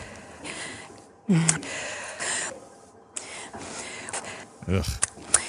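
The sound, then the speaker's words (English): Sharp, breathy inhalations between short stretches of Sarah Palin's voice during her blood libel speech, several audible gasps for air, moderately loud, coming at irregular intervals between phrases of speech. “Sarah Palin breathing in between saying things during her speech, that blood libel speech that she's so famous for now.”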